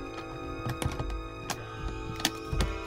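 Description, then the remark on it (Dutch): A small safe, found beside the wreck of an antique surfboard, being very carefully broken open: a scattered series of sharp metallic clicks, knocks and scrapes at irregular intervals, fairly quiet, over a steady low mechanical hum. “Naast dat wrakje van die antieke surfplank lag een kleine kluis. En die gaan we nu openbreken.”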